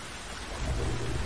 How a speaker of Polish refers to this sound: Nie dość, że apokalipsa, to jeszcze burza musi być.